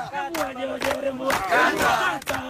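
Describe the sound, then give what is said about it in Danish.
A crowd sings together in unison, many voices holding a sustained chant-like melody with rising swells and brief breaks, loud and full throughout with no separate speech. “Du ved, hvad de egentlig synger.”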